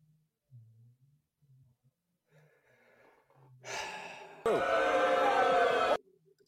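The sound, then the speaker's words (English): Someone gasps and wheezes after a cough, starting with quiet ragged breaths and building into a harsh, loud, strained intake of air that lasts over a second. “is also trying to recover from a cough.”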